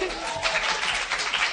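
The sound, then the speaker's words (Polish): A short burst of applause, a steady wash of many hands clapping at moderate loudness, dense and continuous without distinct individual claps, lasting just over a second and a half. “Miało być oklaski.”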